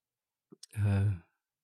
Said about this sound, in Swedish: Det är så tråkigt jag pratar om, så jag gäspar själv.